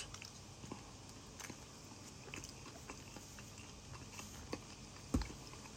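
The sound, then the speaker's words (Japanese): Biting and crunchy chewing of food filled with cucumber and lettuce, with a steady series of moist crunches and one sharper, louder bite near the end; nobody speaks. “じゃあ、咀嚼音がしますので、ご注意ください。”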